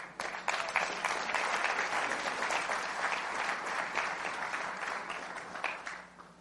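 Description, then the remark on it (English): A crowd bursts into sustained, dense applause, many hands clapping in a steady roar that holds strong for several seconds before tapering off at the end. “Clap.”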